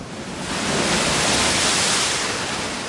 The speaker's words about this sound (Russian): Но вот перед ними море. Бушует, шумит на просторе. А в море высокое ходит волна.